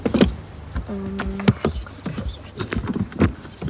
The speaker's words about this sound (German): Als sie einsteigt, schließen wir sofort alle Türen ab.